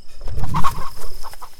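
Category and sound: animal, chicken clucking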